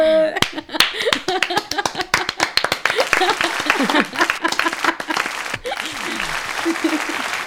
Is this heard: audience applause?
yes